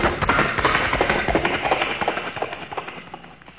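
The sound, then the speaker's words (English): A voice imitates galloping horses: a steady, rapid run of clopping beats, fairly loud, keeping a driving rhythm for a few seconds before easing slightly at the end. “I do vocal sound effects, vocal interpretations, sounds from right in my vocal box right here itself. The sounds such as horses galloping.”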